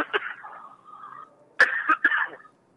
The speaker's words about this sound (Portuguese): Agora tem uma tosse aqui.